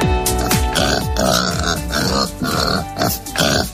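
Pigs grunting and oinking loudly, a busy run of rough snorts and squeals roughly every half second, with no talking.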